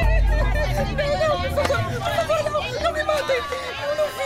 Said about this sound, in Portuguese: Os vizinhos decidiram fazer justiça pelas próprias mãos. Neste episódio, a multidão furiosa quer forçar Linda a sair de casa.